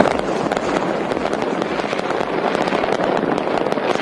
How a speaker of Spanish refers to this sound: Petardos, fuegos artificiales, cohetes, de toda la ciudad iluminada, y en diferentes puntos cada uno va tirando sus petardos y sus cohetes y sus fuegos artificiales. Brutal.